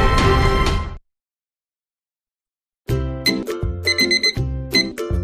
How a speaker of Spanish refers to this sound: ¿Que suena el despertador?